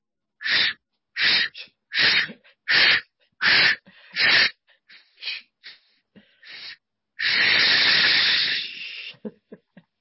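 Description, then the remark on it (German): A voice imitates a steam locomotive with breathy puffs as a breathing exercise for small children: six strong, evenly spaced chuffs, then several softer quick ones, ending in a long loud hiss of exhaled air, clear. “Und da ist mir dann das Schnaufen der Lokomotive eingefallen.”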